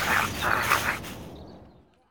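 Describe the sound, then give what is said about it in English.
A dog named Mutt, out shopping at a market, gives three quick, loud barks in close succession over a rough background hiss, and then the sound fades off into quiet. “I can't see any dog food in there. What are you doing, Mutt? Stop it!”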